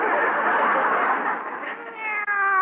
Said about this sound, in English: Well, it's a kitty cat. Oh. Isn't he cute?